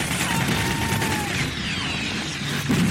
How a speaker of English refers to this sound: It's pretty realistic. It's almost claustrophobic. You're these narrow streets, the barricades, gunfire and smoke. They're shooting RPGs.